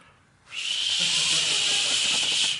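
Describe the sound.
A voice makes a steady, breathy whooshing hiss imitating a flooded river crashing against a house, starting abruptly after a brief quiet and holding at even loudness for about two seconds before cutting off.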